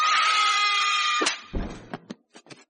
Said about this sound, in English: She got off but a single blood-curdling scream before I leapt and slapped her to the floor.